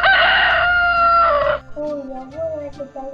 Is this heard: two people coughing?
no